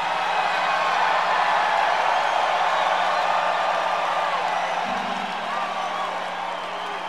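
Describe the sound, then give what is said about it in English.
A large live pre-show audience in Canada roars continuously, a dense wash of cheering and scattered whoops that stays loud and steady throughout, with no single voice standing out. “I mean, what I was saying is the loudest, before we came out, like the pre-show crowd, it was a lot of, it was insane out here.”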